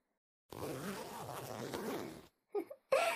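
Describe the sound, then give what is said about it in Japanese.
The zipper on the back of a dress is pulled all the way to the top in one long, steady rasping zip lasting about two seconds, followed by two brief soft sounds like a quiet vocal murmur. “ちょっとお兄さん、最後後ろのチャック一番上まで上げてくれます？”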